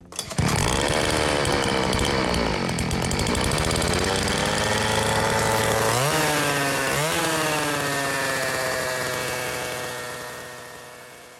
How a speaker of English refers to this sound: Vanessa got back on her motorcycle and drove off, not daring to look back.